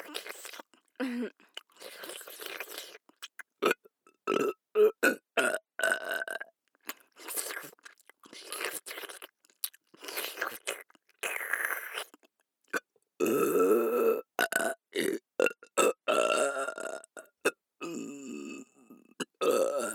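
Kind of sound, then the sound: human body sound, loud burping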